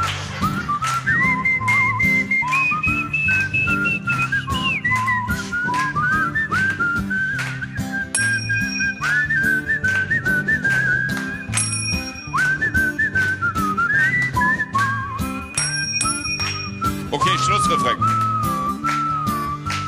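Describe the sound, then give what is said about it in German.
Several people whistle a bright, wandering melody together over a loud, steady backing track with a strong beat, the whistling sustained and prominent throughout. “Los, alle mitpfeifen, weil wenn wir pfeifen, sehen wir alle gleich scheiße aus.”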